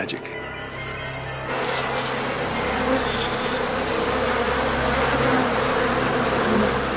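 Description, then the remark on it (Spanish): A dense, steady buzzing of a large swarm of Africanized honey bees (killer bees) swells in after a quieter opening and keeps droning loudly without pause. “Y si te atacan las abejas asesinas, las consecuencias pueden ser trágicas.”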